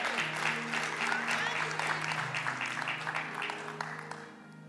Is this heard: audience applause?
yes